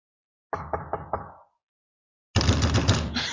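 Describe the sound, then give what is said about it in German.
Four firm, evenly spaced knocks on a door, clear, followed after a short pause by a steady burst of broad rushing noise. “Du stehst da und klopfst an.”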